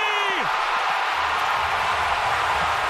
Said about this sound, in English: A catcher has hit 60 home runs! I mean, the crowd is just giving him an MVP chant because it's the eighth inning.